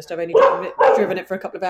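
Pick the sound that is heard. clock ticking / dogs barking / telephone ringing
dogs barking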